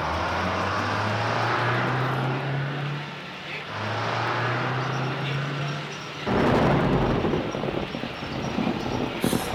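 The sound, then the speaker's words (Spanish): Heavy, low rumbling thunder rolls on continuously, swelling and ebbing before a louder crack-like surge near the end. No voices are present. “Le asustan los truenos.”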